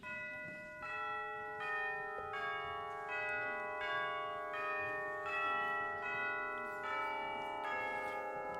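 Bells ring out joyfully in a steady, rapid peal, each strike landing about once a second while their bright tones overlap and hum on. The ringing is loud and continuous, with no voices.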